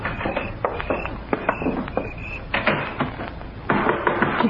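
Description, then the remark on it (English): Repeated sharp knocking on a back door by the District Attorney's assistant, a quick irregular series of firm raps that continues for several seconds against a muffled, slightly noisy background. “That's only my assistant at the back door, Mrs. Tripper. You mind letting him in, too?”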